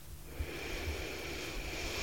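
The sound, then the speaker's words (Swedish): A slow, deep inhale drawn in one continuous airy breath for about two seconds as part of a guided visualization exercise, fairly quiet, with no talking. “Så vi andas in.”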